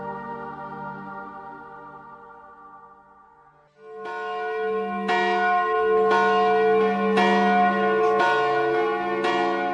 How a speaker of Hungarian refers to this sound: Zúgjatok húsvéti áldott harangok, mert köztünk van a dicső feltámadott. Ha elnémulnátok, s nem szólnátok többé, zúgástok szívünkben élne mindörökké.